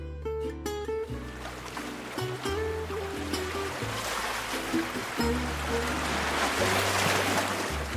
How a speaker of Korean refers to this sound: 저 어디선가 파도 소리가 잔잔하게 들려오고요.